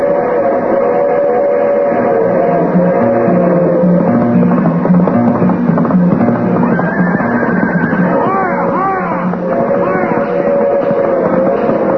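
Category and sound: vehicle, passenger train passing by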